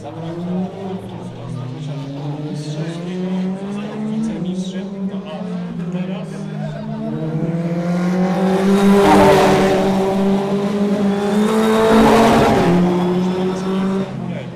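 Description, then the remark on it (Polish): Race car engines, including a Formula Renault 2.0, whine and rev on the Autodrom Biłgoraj racetrack, pitch climbing and dropping through gear changes, with two loud, roaring passes as cars sweep by before fading back. “Na pewno miałem dzisiaj dużo frajdy, bo pierwszy raz też jechałem Formułą Renault 2.0.”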